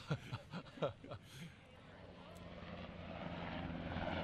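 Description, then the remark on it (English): A broad, steady aircraft engine roar builds gradually as a plane passes overhead in Washington, taking over after a few seconds of voices at the start. “As you can hear, in Washington, even though we have a partial shutdown, there's a lot of air activity.”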